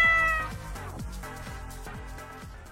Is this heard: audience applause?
no